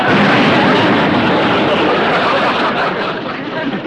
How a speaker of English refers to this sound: What was that? Sounded like a staff car blew. Coincidence. Another staff car.